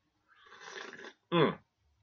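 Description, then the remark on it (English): A long, airy slurp of hot dark roast coffee lasting nearly a second, followed after a brief pause by a short, louder throaty exhale with a voiced, satisfied tone. “If you can hear the slurp, that's the way I like a lot of my things, a little slurp in it.”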